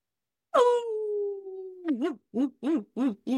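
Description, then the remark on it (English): A voice imitates a pet dog's howling 'woo' talk: one long wavering 'oooo' that slides downward, then five quick rising-and-falling 'woo' calls in a steady rhythm, fairly loud. “If you've got a certain type of dog, so Kiki is a talker and her language of her people is a very, oh, woo”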